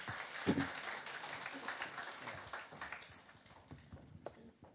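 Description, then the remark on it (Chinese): Steady applause from a church audience welcoming the day's speaker, a young preacher, a dense wash of many hands clapping that continues for several seconds before gradually thinning out. “我们热烈拍手欢迎他。”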